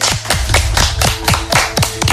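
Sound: applause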